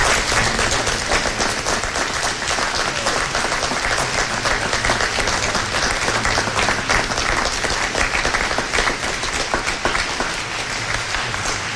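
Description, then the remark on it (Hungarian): A large audience at a Piarist pilgrimage applauds the organizing team of the Piarist Provincial Office steadily for about twelve seconds, a dense, even wash of many hands clapping at a consistently loud level with no voices standing out. “szerintem ők is egy felgetéges tapsot azért megérdemelnek.”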